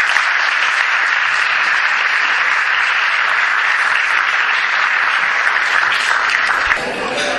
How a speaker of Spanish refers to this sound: Todos ustedes juntos han hecho estos contactos posibles y por eso merecen un gran aplauso. Enhorabuena y muchas gracias.